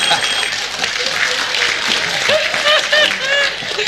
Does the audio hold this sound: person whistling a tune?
no